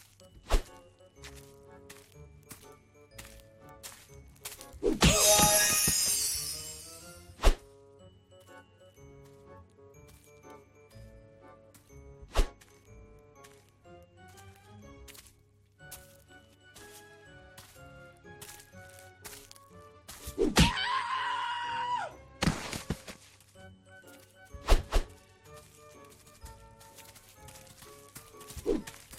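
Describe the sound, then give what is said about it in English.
Video game punching sound effects in a classic game mode where punches collect screams, sharp thwacks landing now and then over looping electronic game music, with two longer, harsh scream-like bursts standing out loudly. “You don't get bonuses based on accuracy, so you can punch, and punch.”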